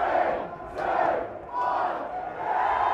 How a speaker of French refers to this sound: Coup de sifflet final et le pub s'enflamme. Tout le monde se serre dans les bras, saute et chante sur les tables.